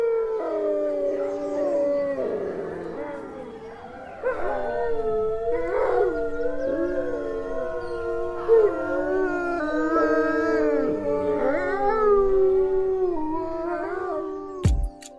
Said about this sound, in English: they might gather as a pack and howl together to both mark their territory and also strengthen pack bonds